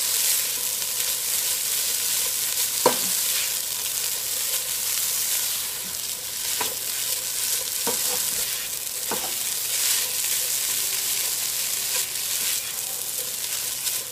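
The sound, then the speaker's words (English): Shredded or crushed beef, just added to spices, sizzles steadily in a hot pan, a constant bright crackling hiss, with a few sharp scraping clicks as it's stirred around. No one speaks. “And at this point, I'm going to go ahead and add my shredded meat or crushed beef in there.”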